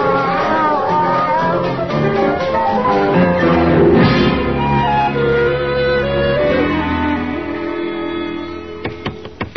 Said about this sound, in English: There are 10 cats on my lap. They're swarming all over me.